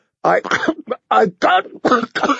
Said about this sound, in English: all the wine came spewing back out when another spate of coughing doubled him over. His face was turning red.